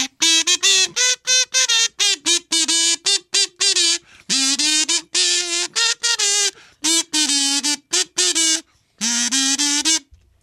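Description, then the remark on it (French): A man warbles a wordless Christmas classic in a loud, nasal, honking voice, with short bursts of notes broken by brief pauses for breath. “et voici le gazouillement”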